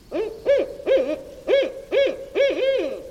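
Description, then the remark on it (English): A barred owl hoots in a steady series of about six loud, throaty notes, each swooping up and down in pitch, with no other sounds or voices. “Or the barred owl.”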